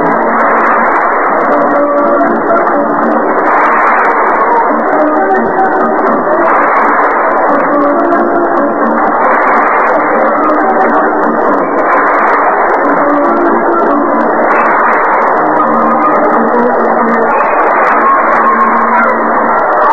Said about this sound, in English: Standing and clapping music by Miss Gladys Gooding. Now after the seventh inning stretch